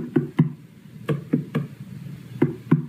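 Hollow, resonant thumps from knuckles rapping on a watermelon to test its ripeness, arriving in pairs and short groups, about seven knocks with a low, drum-like boom and no talking.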